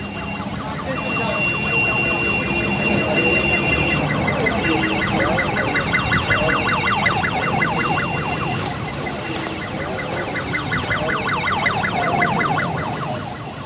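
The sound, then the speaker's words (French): An ambulance siren wails in rapid, repeating warbles, loud, running steadily throughout over a dense wash of street noise and faint voices, at a building fire in Chittagong where half-empty ambulances stand by. “Voilà, les ambulances qui sont là, à moitié vides.”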